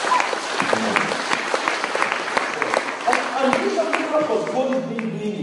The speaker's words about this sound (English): You know, just give God a hand clap. He deserves it.